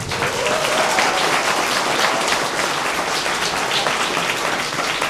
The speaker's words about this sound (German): So, 10% Applaus für den Bahnbabo.